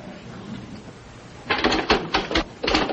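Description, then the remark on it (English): After a quiet, hushed stretch, a typewriter starts clattering in quick, uneven bursts of keystrokes as someone copies out an already written text, pausing briefly before another rapid run of clacks. “what if Wally comes back and catches you doing my typing for me?”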